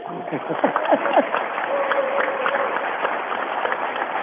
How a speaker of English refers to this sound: All right. Now you can applaud.